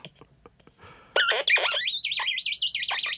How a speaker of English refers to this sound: One nice thing about the crackle box is it's very hard to repeat something that you do once.